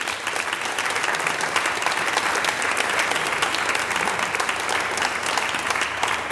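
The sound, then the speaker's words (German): An audience at an open-air stage in the Burg Obervoitsberg castle ruins in Voitsberg applauds steadily to welcome a representative of the Voitsberg culture and city marketing: a dense crackle of many hands clapping at an even, fairly loud level throughout, with no speech over it. “Mit einem großen Applaus vom Kultur- und Stadtmarketing in Voitsberg.”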